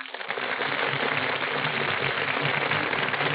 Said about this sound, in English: That burst of applause, ladies and gentlemen, is for Brian Ahern and Joan Fontaine, who are just entering our Gulf Theater stage.